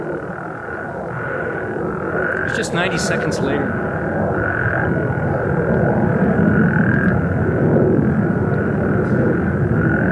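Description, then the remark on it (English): A dense, steady frog chorus at night fills the scene with overlapping croaks and trills that never let up, while a man speaks briefly over the continuous calling. “Take a look at the energy of the Frog Chorus here.”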